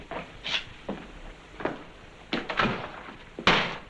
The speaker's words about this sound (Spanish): Se golpea con la puerta.